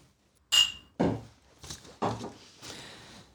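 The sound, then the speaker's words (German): A sharp glass clink with a brief bright ring as glasses are raised in a toast, followed by several duller knocks and thuds as glasses are handled and set down, with no talking. “Und erstmal Prost. Ja, Prost.”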